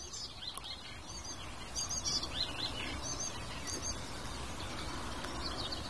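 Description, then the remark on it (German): A tit sings a string of short, high chirping notes, repeated in quick bursts over a steady background hiss, with no voices present. “Also ist es gerade von Schwarzspecht auf Amsel auf Grasmücke zur Meise gekommen.”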